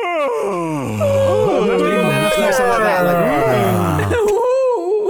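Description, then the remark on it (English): A voice puts on a long, loud, exaggerated yawn, a drawn-out groaning moan that slides up and down in pitch for about four seconds before trailing off into a short breathy sound. “Like a yawn shouldn't be that noisy.”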